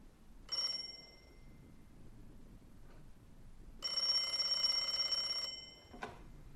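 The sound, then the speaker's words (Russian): A telephone rings in two bursts: a short shrill electronic trill that fades, then after a pause a longer sustained ring lasting over a second, followed by a brief click. “Синицына на проводе? Да.”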